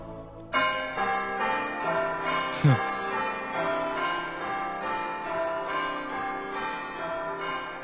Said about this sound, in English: which that sound is my ringtone on my iPad, so every time I get a message it does that bell sound